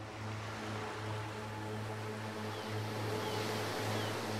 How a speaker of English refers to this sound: Feel the warm sun on your face and listen to the sound of the ocean.